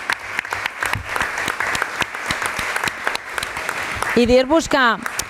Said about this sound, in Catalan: Jo només us volia dir que primer felicitar-vos i felicitar aquí a les campiones aquestes que tenim aquí, que és un orgull per Sitges, la veritat, un aplaudiment.